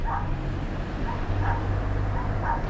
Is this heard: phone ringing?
no